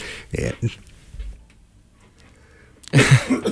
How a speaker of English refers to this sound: No, I'm still coughing.